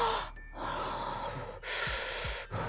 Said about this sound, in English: I'm breathing.